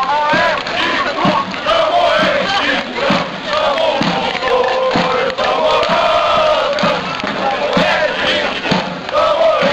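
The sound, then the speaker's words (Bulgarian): A large stadium crowd of fans at a match chants and sings loudly and continuously, with steady, pounding drum beats driving a regular rhythm underneath the massed voices, during a show with majorettes, a brass band, smoke and torches. “Мажоретки, духов състав, димки, факли, песни и тъпани бяха част от шоуто за екзалтираната публика.”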